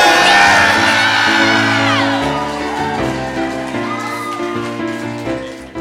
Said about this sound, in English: And the crowd goes wild, but the kid's like, that shouldn't be that impressive.